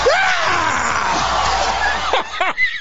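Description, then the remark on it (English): Howard Dean lets out a loud, strained, excited yell, later known as the Dean Scream, over the roar of a cheering crowd at a campaign rally on the night of January 19, 2004, his voice rising and cracking in a few sharp bursts near the end. “That was the energy scream he emitted that night, January 19, 2004, that quickly became known as the Dean Scream, a unique revealing moment, they say, in the early 21st century American politics.”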